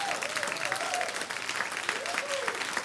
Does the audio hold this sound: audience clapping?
yes